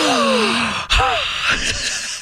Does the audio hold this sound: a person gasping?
yes